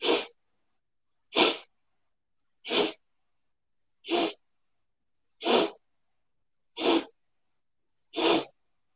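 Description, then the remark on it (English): Seven short, sharp sniffing inhalations through the nose, taken as small sips of air in a breathing exercise. They are evenly spaced about a second and a quarter apart and fairly loud, with silence between each breath. “Seven small sips of air through the nose.”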